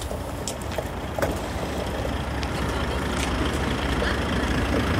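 A small car engine runs steadily, a constant low rumble with faint rattles and clicks on top, and no one speaks.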